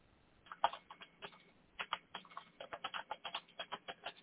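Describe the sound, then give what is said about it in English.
Computer keyboard typing, a steady patter of quick clicky keystrokes that starts sparse and builds into a fast, regular rhythm, with no voices. “I'm typing in now.”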